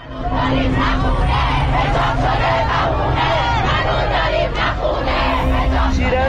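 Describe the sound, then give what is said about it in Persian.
A large crowd of retirees of Iran's telecommunications company chants and shouts together at a protest gathering, loud and continuous, with rhythmic surges of many voices and a dense babble underneath throughout. “با وجود ادامه دار بودن تجمعات اعتراضی بازنشستگان شرکت مخابرات که به طور همزمان در شهرهای مختلف هر هفته در ماه‌های اخیر برگزار شده، شرکت مخابرات اما همچنان پاسخگو نیست و وعده‌های خود را عملی نمی‌کند.”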